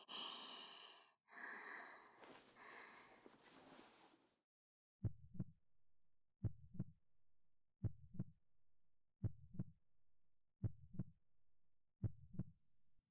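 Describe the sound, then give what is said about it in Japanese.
A few breathy, gasping exhales give way to a steady, thumping heartbeat heard with a head resting on the chest, about six muffled double beats at an even, unhurried pace with nothing else around them. “心臓がドクドクしてるの聞いてください。”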